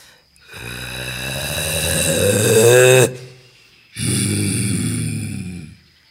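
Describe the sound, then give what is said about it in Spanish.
A jaguar roars angrily twice, deep, rough and rasping: a long roar that swells louder over a few seconds, then a brief pause and a second, slightly shorter growling roar. “Por eso se la pasaba rugiendo con furia todo el día.”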